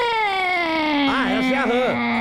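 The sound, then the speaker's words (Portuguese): A person imitates the crying call of a marsh frog (rã) with one sustained, whining vocal tone, steady, that warbles up and down in the middle before settling and trailing off. “Ela faz esse barulho, sério. A rã faz...”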